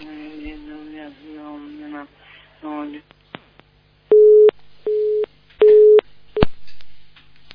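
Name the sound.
telephone busy tone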